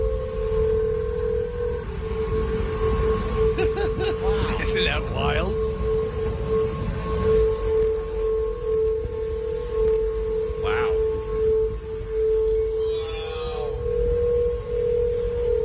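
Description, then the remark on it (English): The Golden Gate Bridge sings with a steady, loud, sustained hum, heard while walking across the bridge: a single eerie tone that drones without break over a rumble of wind and traffic, while a person briefly speaks. “So here is a clip of what it sounds like now when you're walking across the Golden Gate Bridge.”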